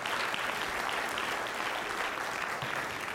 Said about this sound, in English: Good morning. Let's give a round of applause for these kids up here.